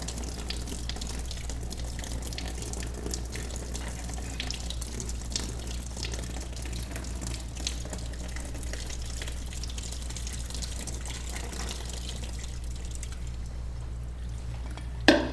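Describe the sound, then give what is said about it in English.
Water pours steadily into a container for about fifteen seconds, a continuous splashing rush with a brief louder clatter at the very end. No one speaks. “And we pour Jesus in, and things begin to change.”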